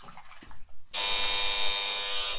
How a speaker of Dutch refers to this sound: Oh, de bel gaat. Ik ga even open doen.